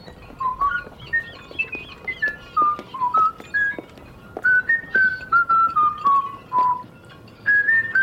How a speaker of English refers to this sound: I'll tell you what, let me whistle a little bit. That should take our minds off of all this walking.